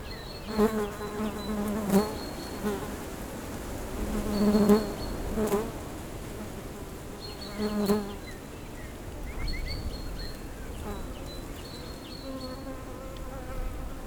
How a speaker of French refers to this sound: Ambiance bien à l'abri du vent. On est dans le fond d'un petit rio totalement sec. Beaucoup d'insectes, des oiseaux.